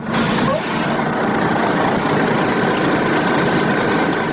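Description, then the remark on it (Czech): A steady, loud bus engine rumbles at idle, a broad continuous drone with no break, as a bus carrying about 80 migrants from Middle Eastern countries stops about 4 km from the Horgoš border crossing in Serbia, near the Hungarian border. “Autobus sa oko 80 migranata izbjeglih iz država Bliskog istoka zaustavlja se na oko 4 km od graničnog prelaza Horgoš.”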